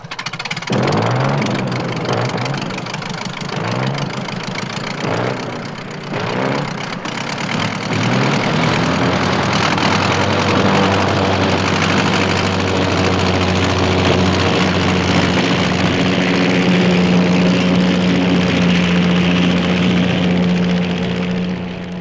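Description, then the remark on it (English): The piston engine of a World War I Sopwith Camel biplane coughs and sputters in uneven bursts for several seconds as it starts for takeoff, then catches into a steady, loud, droning roar with a low humming tone that holds to the end. “Here's World War I flying ace climbing into the cockpit of his Sopwith Camel.”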